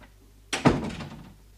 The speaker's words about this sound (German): Die Tür ist offen. Hab ihr gekloppt? Poch, poch